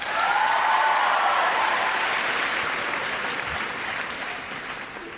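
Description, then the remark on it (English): An audience claps in answer to being asked how many know what the Morrow Plots are about, at the start of a skit called 'Twas the Night Before Plots, a dense wash of many hands that holds strong for several seconds and then slowly thins and softens toward the end. “Now, by show of applause, let's find out, how many of you know what the Morrow Plots are about?”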